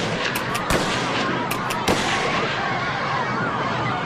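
Three rifle gunshots from a rifle with a telescopic sight, fired by Lee Harvey Oswald at the presidential vehicle as it passed the school book depository in Texas, at 12:30: a quick run of sharp cracks in two clusters, each followed by a long rumbling tail that slowly fades. No one speaks.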